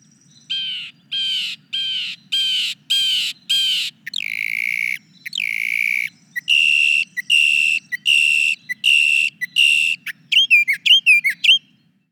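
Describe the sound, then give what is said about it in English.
A mockingbird runs through a series of mimicked calls: harsh blue jay screams, rapid ringing Carolina wren phrases and sharp flicker notes, each repeated several times in clear, loud bursts with no talking. “Here's one that imitates a blue jay, a Carolina wren, and a flicker, among other things.”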